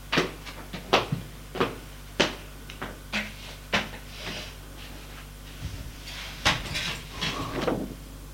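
A bedroom door being closed, heard as a string of sharp clicks and knocks, some louder than others, spaced irregularly over several seconds against a low steady hum, with no voices.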